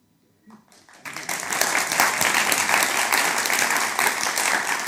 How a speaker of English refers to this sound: I've never gotten so much applause for saying something so obvious in my entire life.